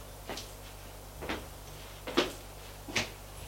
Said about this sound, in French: Il ouvre une porte